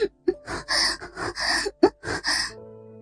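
A woman pants heavily in quick, breathy bursts, about six close, loud gasps over a few seconds, with soft voiced moans woven between the breaths and no other talking.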